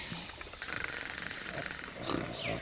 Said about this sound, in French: C'est lui? Le pingouin, il ronfle, il a sommeil. Il dort bien, le cousin.